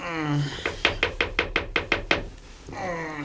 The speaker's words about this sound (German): Der erste Detektiv hatte sich gerade auf sein Bett plumpsen lassen, als es an der Tür klopfte.